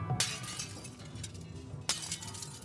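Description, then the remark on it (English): Car window glass is smashed twice with a bat, each sharp, loud crash followed by a bright tinkling spray of shards, with a low rumble underneath and no voices. “she was sick of him being gone so much, and she warned him that she would destroy all the glass in his car.”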